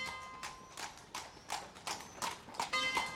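horse-drawn carriage hooves clip-clopping

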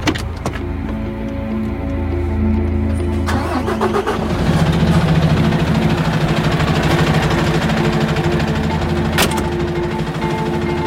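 truck engine idling

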